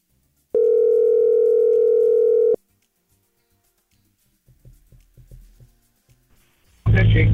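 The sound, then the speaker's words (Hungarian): A single loud, steady telephone ringing tone sounds for about two seconds as a listener is called, followed by a quiet pause with faint rustling and muffled voices before a sudden burst of loud noise. “Na, hívjuk gyorsan a naphallgatóját.”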